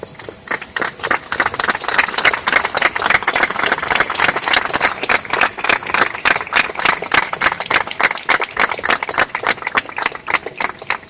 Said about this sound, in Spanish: Pues lo oyen, con este aplauso se rompió este martes el silencio en Cáceres por Laura Luelmo, la zamorana asesinada en el Campillo, en Huelva.